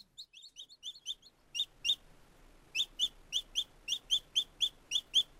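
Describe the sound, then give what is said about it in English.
Young thrush chicks in the nest chirp loudly and insistently on hearing their parents near, in a rapid series of short, high, repeated calls, some clustered quickly together, with no talking. “The young thrushes chirp loudly when they hear their parents near the nest.”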